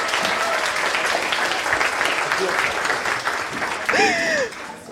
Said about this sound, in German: Die haben den Applaus auf jeden Fall verdient.